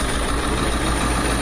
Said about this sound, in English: And then there's a whole bunch of... it's windy out here, too. And there's a whole bunch of media trucks out here. So everybody is... a lot of diesel idling.